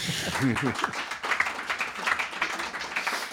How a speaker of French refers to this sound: Alors, dans ce cas-là, on va t'applaudir.